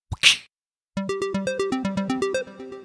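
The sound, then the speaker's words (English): A single sharp slap of a bracelet snapping shut, with a brief swishing tail, then a bright, rhythmic plucked melody of evenly spaced notes plays for a couple of seconds. “Today's episode of Super Good Question is brought to you by slap bracelets. Remember those?”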